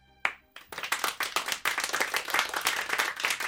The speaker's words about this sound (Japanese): 商店街の人たちから拍手が起きた。